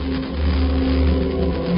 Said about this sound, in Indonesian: Aku menyalakan mobil